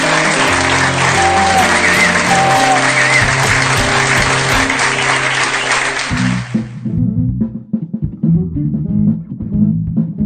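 A loud, dense burst of clapping and crowd applause carries on steadily for about six seconds, then cuts off abruptly into a lower, tonal musical passage.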